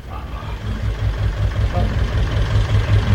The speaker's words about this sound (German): Ein kleiner Trecker mit einem Anhänger rollt auf den Hof. Darin grunzt ein Schwein. Langsam rangiert der Landwirt rückwärts, bis der Hänger vor dem Tor des Flachbaus zu stehen kommt.